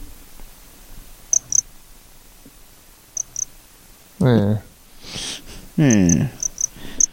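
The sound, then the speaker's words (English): Two short bursts of children's voices chatter in the background, while faint, evenly spaced insect chirps tick on a quiet outdoor bed throughout. “Yeah, you can hear people talking in the background and stuff.”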